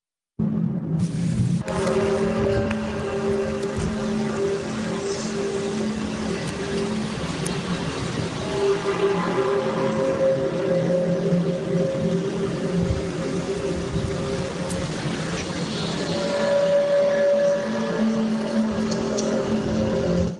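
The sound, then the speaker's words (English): A low, steady humming drone with booming undertones, holding several sustained tones that slowly waver and shift in pitch, loud and continuous throughout with no voices; an unexplained mystery sound recorded in Switzerland. “I just heard a low humming booming sound, like a constant jet engine coming and going from low pitch to high pitch in phases of 10 minutes, close quote.”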